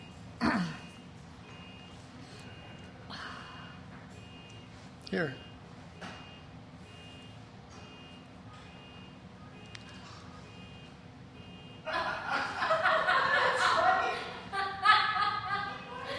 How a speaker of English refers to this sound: Somebody's car is beeping. Somebody's breaking into your car.